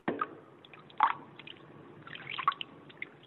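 Water splashes and drips as a woman washes her feet in customary ablutions before entering the sanctuary at the Women's Mosque of America in Los Angeles, with soft wet squishes and a few sharper splashes near the start and middle, and no voices.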